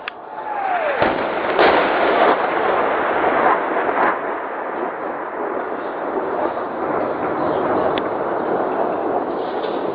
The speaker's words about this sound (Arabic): القصف المتواصل على حي باب عمر من قبل قوات الأسد.